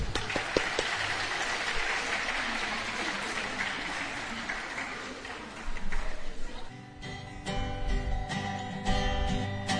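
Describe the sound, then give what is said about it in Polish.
A crowd applauds with dense, steady clapping for about seven seconds as two singers are introduced to sing for the Nazarene sisters, then music with sustained tones begins as the clapping thins out beneath it. “Brawa!”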